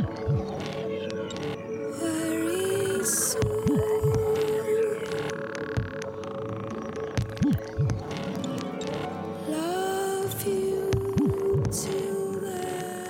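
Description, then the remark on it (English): A creepy, low throbbing wub from a song on a record pulses repeatedly beneath sustained eerie drones and sliding tones, loud, with no one speaking. “has that creepy kind of wub.”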